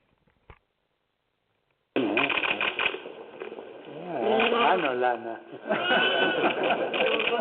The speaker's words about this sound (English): Listen to the little lambs as they scream as Pope Francis draws near to touch them.